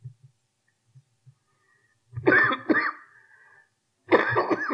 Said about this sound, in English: Excuse me. This cough's not gone yet.